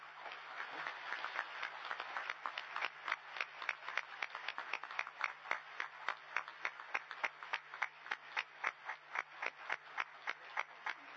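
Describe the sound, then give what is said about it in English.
A round of applause from a Commission meeting, given as clear general consent to a decision, starting as a loose patter and settling into steady, rhythmic clapping in unison, about three claps per second, with a faint low hum underneath. “I note we don't have a definition of clear general consent, but without wanting to lead the Commission, I think a round of applause would do, probably.”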